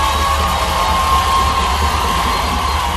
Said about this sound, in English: In cities across Switzerland on Friday, hundreds of thousands of marchers at the annual women's strike shared a very different kind of scream, a mass scream.